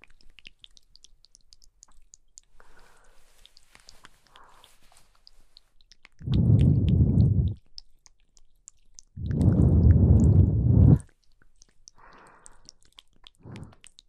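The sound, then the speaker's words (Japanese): Two long, airy breaths are blown softly into the ear, each lasting over a second with a short pause between, surrounded by faint mouth clicks and quiet rustling. “はあ、じゃあ、お耳にも吐息かけてあげますから、それで気持ちよくなってください。”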